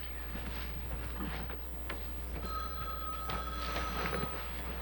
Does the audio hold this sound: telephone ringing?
yes